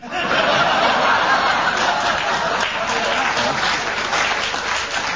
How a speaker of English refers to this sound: It's what I call lingering applause. I don't know whether they should be clapping or not,